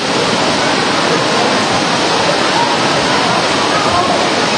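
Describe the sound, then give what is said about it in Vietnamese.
Heavy rain pours down on a gathering as people are hurried into seats, a loud, unbroken hiss that stays dense and steady for the whole few seconds, with no gaps or distinct drops standing out. “Vào trong mưa to rồi, hắt rồi, lẹ lên, chạy nhanh lên.”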